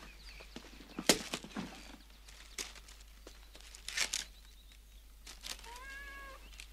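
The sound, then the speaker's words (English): A cat gives one drawn-out meow near the end, fairly clear, after several seconds of sharp rustling and crinkling noises. “What do you think of it, Wellington? Wellington says he likes it. Cats can't talk.”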